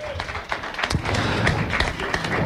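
A crowd of audience members at the Magic Mirror in Mantes-la-Jolie applauds steadily during a live radio broadcast, many hands clapping in a dense, continuous patter with a few sharper claps standing out, fairly loud and sustained throughout with no voices on top.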